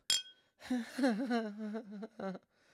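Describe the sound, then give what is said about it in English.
A single bright clink of glasses touching in a toast rings out sharply at the start, followed by a voice speaking or murmuring for a couple of seconds. “Anyways, cheers”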